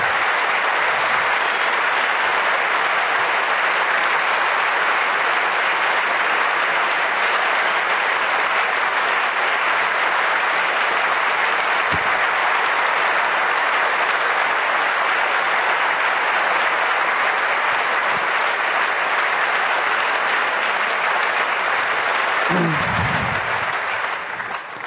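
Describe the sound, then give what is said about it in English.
Sustained applause at a Congress for its organizing team, a dense steady wash of many hands clapping at an even loudness for the whole stretch, with no voices standing out. “Yeah, and you know, if you start lists, just another clap to you, the one we forgot to mention.”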